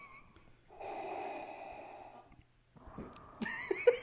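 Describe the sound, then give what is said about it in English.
Two slow, deep breaths: a long airy breath, a short pause, then a second, rougher breath that ends in snorting, nasal sniffs. No one speaks. “I just like listening to the breathing.”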